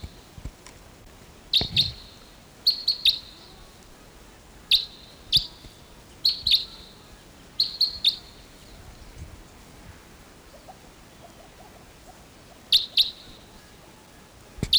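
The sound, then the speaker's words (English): Calls of a wild type 2 red crossbill flying right overhead in the early morning of August 16th: sharp, high, clipped notes, often in quick pairs, repeating irregularly about a dozen times over a soft, steady background hiss with no voices. “early morning of August 16th, and there's a wild type 2 crossbill coming in.”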